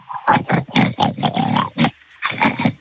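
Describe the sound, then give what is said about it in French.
A man's voice imitates a pig over the telephone, like the pig imitation in the film Misery, producing a rapid series of loud, raspy grunts and snorts in a steady rhythm, with a short pause before a final burst. “je vous écoute faire le cochon au moins 5-6 secondes.”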